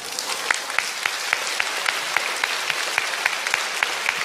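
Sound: audience applauding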